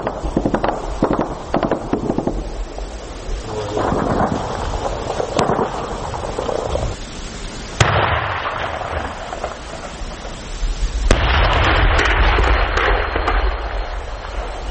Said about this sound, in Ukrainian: Це був вечірній бій. Він розпочався трошки далі від села, під Водяним. Ворог почав стріляти по дальнім позиціям українських морпіхів, і наші хлопці почали відповідати. І поступово з-под одиноких пострілів розгрівся справжній бій.